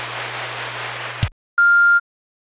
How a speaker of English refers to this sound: We can't come to the phone right now, so kindly leave your name, your number, and a brief message after the tone. After the beep. It says tone here, but it's a beep.